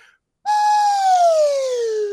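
slide whistle played

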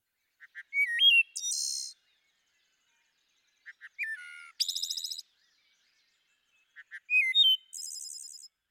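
wood thrush song

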